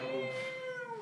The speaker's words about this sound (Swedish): Katten, jag känner igen katten. Kan du spela klippen med katten?